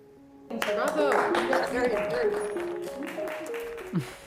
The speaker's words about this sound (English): That was inspiring, you know, when they clapped